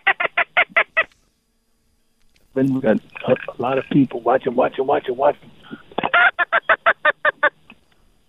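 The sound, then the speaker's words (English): A teal duck call blown on opening day of duck hunting season in the West Zone, Louisiana, with Cajun Fishing Adventures, in rapid, evenly spaced bursts of high, raspy quacks, a quick series at the start and another after a stretch of talking, with a man's voice between them. “Yeah, sound like a teal call you're putting on there.”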